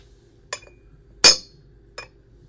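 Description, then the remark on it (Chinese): A ceramic bowl drops and breaks: a light clink, then a loud, sharp shattering crash, followed a moment later by one small clink of a settling piece, with no talking. “你他妈的居然把我的碗打碎了，你要当瞎子阿炳吗？”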